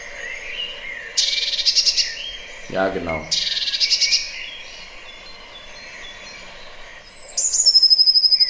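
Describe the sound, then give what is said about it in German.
Harsh, buzzy bird calls in two agitated bursts, high-pitched and loud, at a feeding spot, followed later by a sharp whistled call; a man briefly speaks between them. “Das ist, dann regen sie sich auch so ein bisschen auf und das machen die oft an den Futterstellen, dieses Geräusch.”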